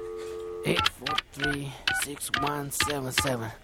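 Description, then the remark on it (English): A steady telephone tone is followed by a quick run of keypad dialing beeps as a man dials a request line, fairly loud, with a voice sounding over and between the tones. “what's the number again? Oh, let's see. 8436177. Yeah, just be quiet, man. I gotta make this call, okay?”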